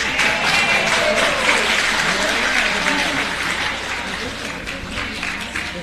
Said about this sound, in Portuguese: Antes de tudo, queria pedir uma salva de palmas tanto para a organização desse evento, que me chamou para estar aqui presente.